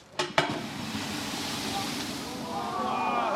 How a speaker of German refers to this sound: was passiert, wenn eine brennende Fritteuse mit Wasser will gelöscht werden